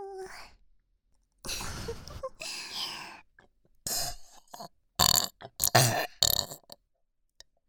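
Several loud burps: two long, drawn-out belches followed by a quicker run of shorter, choppy ones, with brief silences between and no talking.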